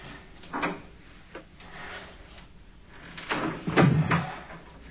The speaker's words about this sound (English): The door.